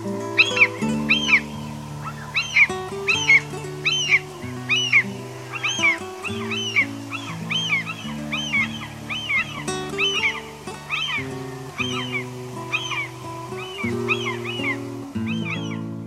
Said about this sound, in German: Das war die Sturmmöwe.